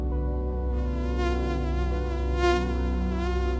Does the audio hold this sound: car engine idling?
no